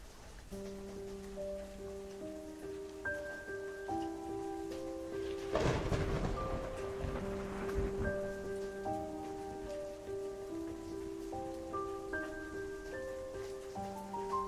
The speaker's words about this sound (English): Almost over, boy. Storms this bad can't last too long.